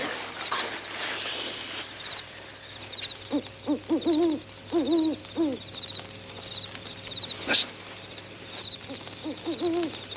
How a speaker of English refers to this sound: You hear that? That's a hoot owl.